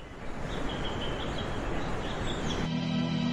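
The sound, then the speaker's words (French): Faint, scattered bird chirps in a forest, partly masked by the steady rushing wash of flowing streams, before a low droning hum takes over near the end. “Le chant des oiseaux, le bruit des cours d'eau.”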